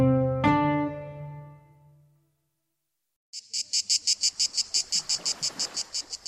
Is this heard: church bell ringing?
no